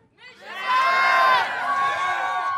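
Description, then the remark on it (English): A large group of children scream the word "Missions" together as a team cheer in a loud, sustained shout, their high voices rising quickly and holding before trailing off. “So, I mean, when they say missions, we say missions!”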